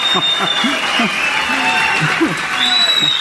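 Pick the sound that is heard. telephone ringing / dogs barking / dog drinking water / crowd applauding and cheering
crowd applauding and cheering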